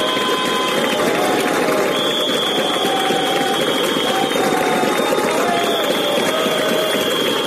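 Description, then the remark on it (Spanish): A dense, steady din of several hundred Alcoa workers protesting the ERE layoff plan outside the government subdelegation: shrill whistles held in long, piercing notes over loud clapping and clattering, with helmets drummed on the ground, continuing without pause throughout. “Pitos, aplausos, bueno, están ahí como tamborileando con los cascos, dando con los cascos en el suelo en este preciso instante.”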